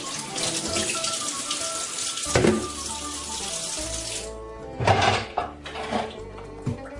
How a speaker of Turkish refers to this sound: Pirinçleri yıkayalım ve süzelim